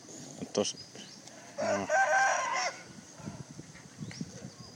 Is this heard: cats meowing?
no